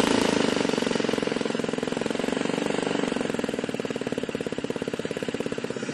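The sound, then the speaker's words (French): A small compressed-air engine, a homemade invention, runs steadily. Its rapid, even pulsing chug fills the whole recording with a loud, hissy mechanical rattle, and no one speaks. “C'est effectivement le moteur qu'on entend. Là, il fonctionne avec de l'air comprimé.”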